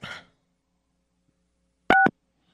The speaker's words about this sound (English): Yeah, but listen to that dial tone. Yeah, it's not stable.